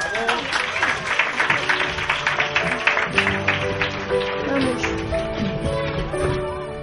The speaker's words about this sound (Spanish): ¡Un aplauso!